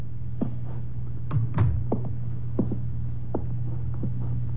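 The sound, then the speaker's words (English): An apartment door on the 10th floor of an apartment house on Gramercy Square is unlocked with a pass key and opened: a string of sharp metallic clicks and knocks, with a brief rattle in the middle, over a steady low electrical hum. No one speaks. “I drove down to the apartment house on Gramercy Square where Cross and Halleck lived, took the elevator up to the 10th floor, found the right door, and slipped in with a pass key.”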